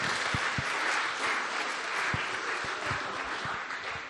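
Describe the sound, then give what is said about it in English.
A crowd claps steadily for about four seconds, a dense, even wash of many hands with a few sharper individual claps standing out, fading slightly toward the end. “Do you want to give them a round of applause?”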